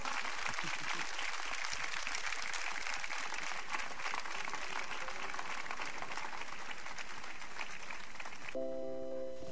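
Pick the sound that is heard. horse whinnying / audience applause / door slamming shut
audience applause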